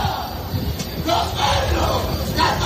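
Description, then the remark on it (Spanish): A crowd of people shouting together outside Punta Europa hospital in Algeciras, Spain, where a 26-year-old shooting victim was taken, in loud, overlapping bursts, voices rising and falling over a steady roar of noise, with no pause throughout. “Son los gritos en el exterior del hospital Punta Europa al que fue trasladado el joven de 26 años, tiroteado allí en Algeciras cuando estaba sentado en su coche.”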